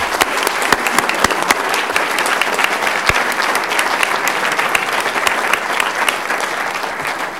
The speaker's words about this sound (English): So thanks to all of our volunteers. Let's give them one more round of applause, please.